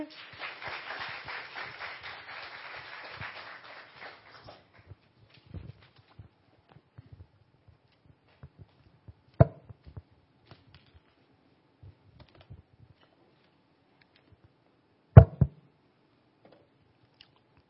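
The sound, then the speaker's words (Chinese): An audience breaks into warm, steady, dense applause to welcome a pastor for about four seconds, then it stops abruptly, leaving scattered soft taps and shuffles and a couple of sharp knocks near the end. “好，这时候呢我们要热烈拍手来欢迎郭碧辉牧师。”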